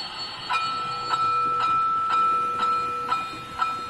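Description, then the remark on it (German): A small model train hums steadily along its track, a thin motor whine under regular light clicks every half second as the wheels pass rail joints, moderately quiet. “Ja, und das, ab und zu gehe ich mal bei, schalte das Ding mal ein, dann läuft das mal 5, 6, 7, 8 Runden und dann mache ich es wieder aus.”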